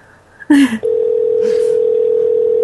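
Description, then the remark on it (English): A brief clatter, like a phone receiver being picked up to call a hotel, gives way to a steady, loud telephone dial tone that hums on unbroken, with one faint click partway through. “Let's call other rooms in that same hotel, but just not his.”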